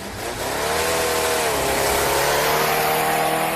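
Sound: race car engines revving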